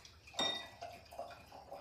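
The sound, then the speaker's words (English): White wine from a bottle is poured into a glass at a kitchen counter, a soft clink followed by several quiet, gurgling glugs of liquid at a steady rhythm, with no voices. “She extracts a bottle of white wine from the fridge, then carries it and the glass over to the kitchen counter and pours a glass of wine.”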